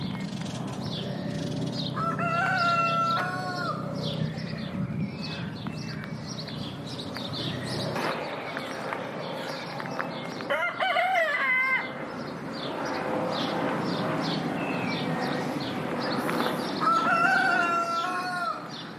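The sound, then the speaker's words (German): A rooster crows three times at spaced intervals, clear, over a steady bed of small birds chirping and the soft, low rumble of an aircraft far away in the sky, on a neighbourhood farm in the middle of Zurich. “Vögel, die zwitschern, irgendwo weit weg ein Flug am Himmel und dann der Gückel.”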